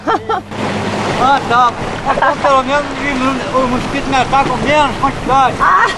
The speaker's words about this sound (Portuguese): A única maneira de nos aproximarmos da ilha para desembarcar é pegando carona no barco do seu Jonas.